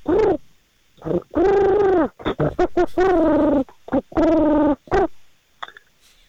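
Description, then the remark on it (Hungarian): A person imitates a back-and-forth between a cooing pigeon and a hooting, chattering chimpanzee, with loud vocal bursts alternating in quick, uneven rhythm. “Akkor egy pici galamb csimpánz párbeszédet hagy halljuk.”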